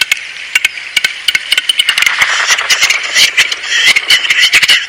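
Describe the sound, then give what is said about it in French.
Western capercaillie song: a series of dry, sharp clicks that speed up and crowd into a rapid rattling, scraping passage, fairly loud, with no voices. “Le grand tétras est reconnaissable à son chant.”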